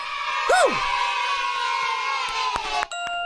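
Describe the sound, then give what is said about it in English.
A crowd on the PK and DK show cheers and applauds loudly and steadily, with a rising whoop near the start and sharp claps breaking through toward the end. “Once again, applauding for yourself.”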